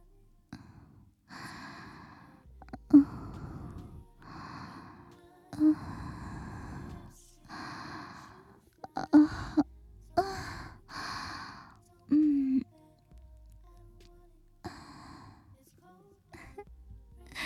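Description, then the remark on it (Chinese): A teacher's intimate breathing right at the listener's ear, a steady series of soft inhales and exhales with occasional sighs and small gasps, and no spoken words. “老师的呼吸声就在你的耳边，一会儿是温柔的情话，一会儿是严厉的命令”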